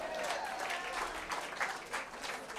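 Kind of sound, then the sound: crowd, audience clapping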